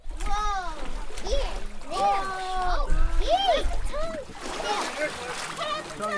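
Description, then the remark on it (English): Water mixed with beluga whale blood splashes and sloshes on the boat ramp by the Dillingham City Dock, where a harvested beluga's skin and blubber are being cut. A crowd of voices, including children's, chatter and call out continuously throughout. “Beluga blood mixed with water on the boat ramp by the Dillingham City Dock. A crowd hovered around”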